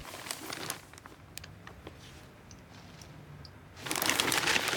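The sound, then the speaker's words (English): A newspaper rustles and crinkles as it is folded up and slapped down on a table, in two bursts: a crisp crackling flurry at the start and another at the end, with quieter scattered ticks in between, and no voices. “Donald folds up the paper and slaps it down on the table.”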